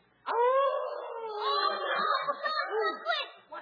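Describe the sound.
A person's voice imitates a howling dog, a loud sustained wavering howl that rises and dips in pitch for about three seconds before trailing off.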